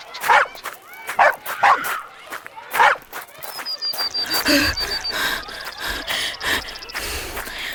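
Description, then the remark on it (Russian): A small dog, given a mitten to sniff, picks up a scent: it yips and whines in short, uneven bursts, with quick sniffing breaths in between, followed by a busier stretch of rustling and a thin high whine. “Смотрите, кажется, что-то учуяла. Идем за ней.”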